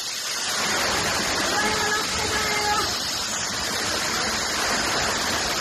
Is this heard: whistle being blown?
no